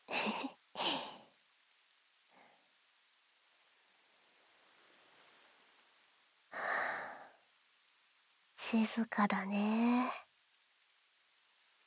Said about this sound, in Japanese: 波音と雨音、すごい聞こえる。これが好きなんだよね。